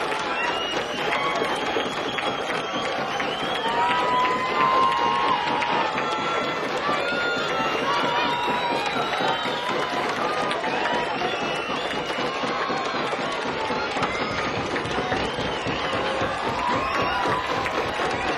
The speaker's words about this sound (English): Pounding of feet, hands, glasses, and one person holding a lighted match in the middle of the crowd. Yeah, here they come back for an encore.